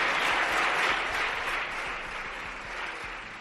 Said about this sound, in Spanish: Bueno, aplausos de la bancada popular. Ha sido más de un minuto de aplausos al todavía líder de los populares